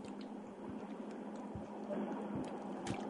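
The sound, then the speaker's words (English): Someone takes quiet sips of Mountain Dew, a soft drink, with soft wet gulps and small clicks over a faint fizzy hiss. No one speaks. “You need a sip of water or something? Yeah, I've got a Mountain Dew.”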